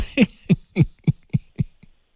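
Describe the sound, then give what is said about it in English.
A dog barks six times in a quick, steady rhythm, each bark short, sharp and fairly loud, with the last one fainter. No one speaks over it. “It sounds like your dog has a say in what's going on here.”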